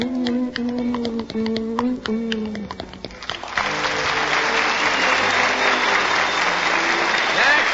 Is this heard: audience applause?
yes